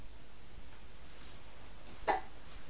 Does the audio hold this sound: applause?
no